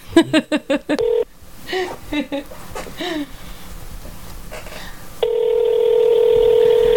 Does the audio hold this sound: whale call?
no